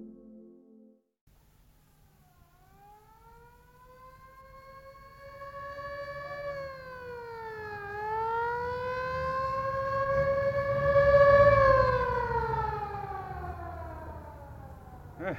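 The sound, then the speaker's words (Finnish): An ambulance siren wails in a long, slowly gliding tone over a low traffic rumble in a city, growing steadily louder before cutting off abruptly as the ambulance turns off at the end of the street, heading west toward the seashore. “Eikös merenranta ole tuossa suunnassa kaupunkia, minne tuo ambulanssi katosi?”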